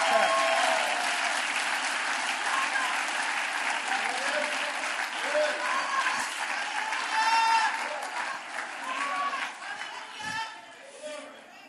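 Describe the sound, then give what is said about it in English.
A church audience claps hands steadily, dense and continuous at a fairly loud level, with scattered voices and cheers rising over the applause before it slowly thins out near the end. “Clap your hands if you can.”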